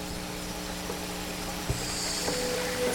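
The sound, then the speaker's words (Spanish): Electromagnetic waves captured as a signal and decoded by scientists, rendered as sound: a steady, eerie electronic drone of layered humming tones over constant hiss, with a few faint clicks and a slight swell near the end. No voices. “Unas ondas que creo que aquí se llaman electromagnéticas.”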